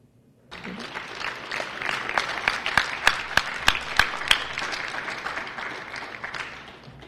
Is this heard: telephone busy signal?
no